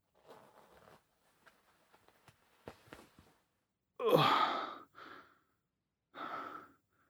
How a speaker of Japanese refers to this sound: ベルトを外せる？上手。チャックも下ろして。